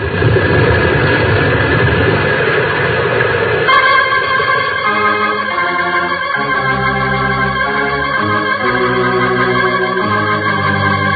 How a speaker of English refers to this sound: Avalanche. Side of the mountain's coming down. It's going to block the entrance.